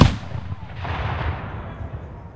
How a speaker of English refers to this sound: He started here in 1974, and then in early 2000s, he said, hey, you want to come shoot cannons with us? And I was like, yes, I would love that. And so I've been shooting cannons with my dad for 12 years now.